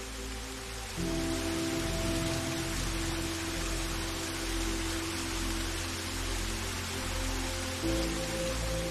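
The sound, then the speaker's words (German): A steady, dense rush of a waterfall fills the whole clip, hissing and continuous, with a soft low drone humming underneath and a slight rise in loudness early on; heard from afar and growing louder while walking toward it from a small clearing, in low golden sunlight. “Aus der Ferne kannst du das Rauschen eines Wasserfalls hören.”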